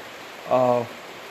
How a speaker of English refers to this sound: I just want to let you know that it's raining out, and raining's bouncing off my tin roof, so that's what you're hearing in the background. So I kind of think this makes this episode a little more authentic.